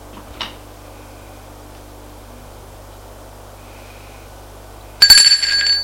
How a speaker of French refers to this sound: On a sonné à la porte qui est en face, qui sont rentrés. Le garde va ouvrir la porte.